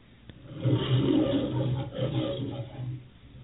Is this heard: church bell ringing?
no